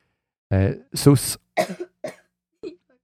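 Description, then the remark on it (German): A person coughs several times in a row, fairly loud at first, then the rough bursts grow shorter and fainter, ending in a small throat-clearing sound. “Warte, du bist am Husten.”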